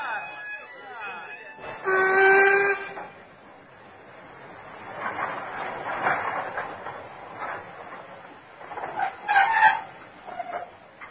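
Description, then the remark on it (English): A train at a station: a loud, sustained whistle blast early on, followed by hissing and clanking activity that swells and fades, with a few shorter tonal calls near the end. “I thought you would be, seeing as you're the only one to get off the train.”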